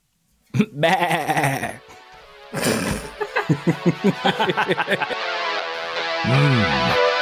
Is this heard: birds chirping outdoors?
no